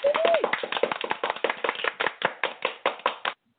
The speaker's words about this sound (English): We thank you for it. Yay! And clap to you.